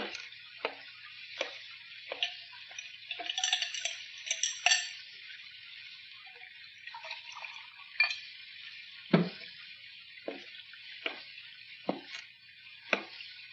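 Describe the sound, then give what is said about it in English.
A cocktail is mixed with a dash of bitters: a steady soft hiss like liquid pouring, broken by sharp irregular clinks and knocks of glass and ice, with no voices. “Add a dash of bitters, would you?”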